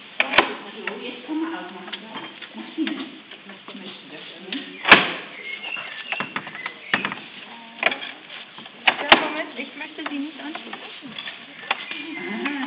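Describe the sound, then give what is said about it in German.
A heavy door in a church crypt is worked open, with a few sharp clunks and knocks standing out over a steady background of muffled voices and rustling. “Da ist ein starker Mann dabei, der kann die Tür wieder zukriegen.”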